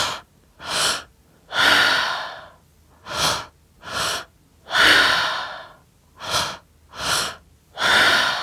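Rapid, rhythmic breathing during a breathing exercise, with short sharp inhales alternating with longer, forceful exhales in a steady repeating pattern, loud and breathy with no talking.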